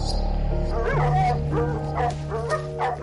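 cadaver dogs barking

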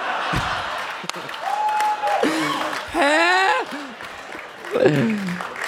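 audience clapping and applause

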